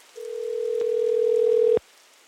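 A steady, unbroken telephone dial tone hums for about a second and a half, clear, then cuts off with a sharp click. No one speaks.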